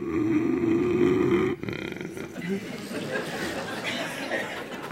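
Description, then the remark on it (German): A voice imitates a drawn-out, rasping, roaring snore of the kind made when the base of the tongue falls back, lasting about a second and a half, followed by an audience's scattered laughter and murmuring chatter. “Oder wenn der Zungengrund hinten fällt, dann ist es eher so ein ziehendes, röhrendes Schnarchen.”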